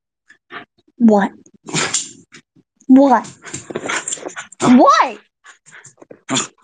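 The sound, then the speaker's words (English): A dog harassing and nipping at a person lets out several short, rising whines and yips in quick bursts, mixed with the person talking and sharp, excited vocal sounds in between. “He's taking another caller, even though this dog is harassing me!”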